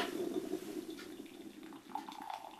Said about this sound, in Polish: Imbryczek. Dziękuję, dziękuję. Nalejemy. Już? I co, gorącej wody?